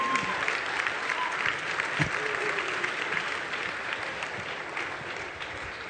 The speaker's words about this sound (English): Let's give our elders a round of applause. Thank you, elders.